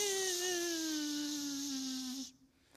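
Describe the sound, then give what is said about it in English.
A dental drill whirs with a steady, high-pitched whine and airy hiss, its pitch sagging slightly as it runs for just over two seconds before cutting off abruptly. “And God takes a drill, and he just...”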